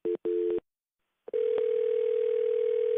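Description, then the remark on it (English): Two short, steady telephone tone bursts, a pause, then a long continuous mid-pitched tone as a 911 call from Strongsville, Ohio is transferred to the proper jurisdiction. No one speaks. “I'm going to transfer him to the proper jurisdiction.”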